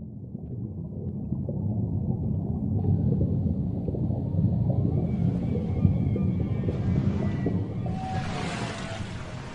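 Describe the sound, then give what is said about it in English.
Whale calls played in a museum exhibit gallery drift through a deep, rumbling underwater wash, with long tonal moans and rising whistles layering in toward the end, steady and immersive, no voices. “It really makes you feel like you're swimming with the whales.”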